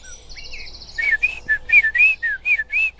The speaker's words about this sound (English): Oh, blackbird. You get the blackbird there? Throaty sort of the song. Yeah, did you get that? There it goes again. That's the blackbird.